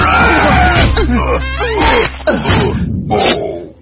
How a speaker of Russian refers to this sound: Он разлетелся на куски, а Копатыч с лосяшем с воплями повалились на землю.